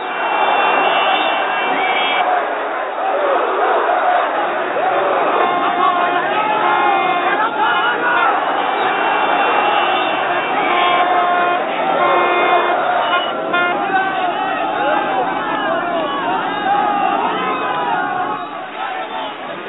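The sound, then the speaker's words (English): A dense, loud crowd roars and shouts continuously around Khomeini's motorcade near the University of Tehran, with excited voices overlapping and occasional car horns honking amid the clamor for the whole stretch. “Motorcade crowds were the most emotional near the University of Tehran, where scores of pro-Khomeini demonstrators had been wounded or killed by Iranian troops in the past week.”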